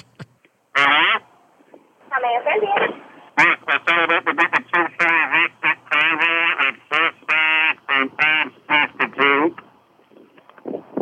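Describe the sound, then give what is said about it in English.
A voice buzzes loudly through a kazoo, saying "no thank you" while ordering at a fast-food drive-through. One short honk is followed by a run of choppy, nasal bursts that mimic the rhythm of speech without clear words. “And I said in the kazoo, no thank you.”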